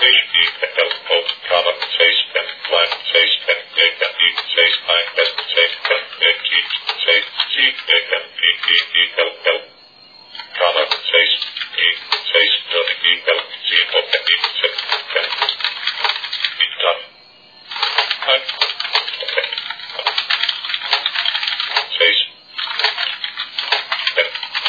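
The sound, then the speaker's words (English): Rapid keyboard typing of a plain-text paragraph for a web page: a dense, continuous stream of clicking keystrokes at a fast pace, broken by two brief pauses before the clatter resumes. “And I'm typing fast here because the text here is just plain text, and it's pretty much irrelevant for the purpose of this tutorial.”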